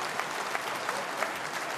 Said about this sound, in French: Alors, attention, on va faire un test pour savoir. Tous les manchots vous applaudissent.